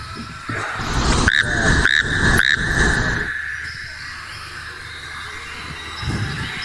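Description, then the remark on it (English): A frog calls loudly: a steady ringing tone punctuated by three sharp, rasping pulses in quick succession, then the chorus fades to a quiet background hum. “And this evening's final frog.”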